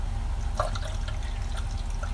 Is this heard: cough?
no